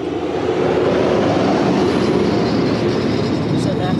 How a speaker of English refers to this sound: A coal truck. It's about to pass through the gate leading to your homeland.